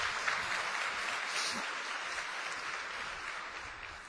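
Steady audience applause at the end of a talk fills the air, a dense crackle of many hands clapping at once, moderately loud and sustained throughout without any clear break.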